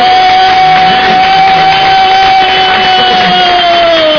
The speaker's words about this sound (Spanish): Pues nuestro hispanohablante americano que tiene ha montado la primera huelga general que está en Estados Unidos. ¡Un aplauso!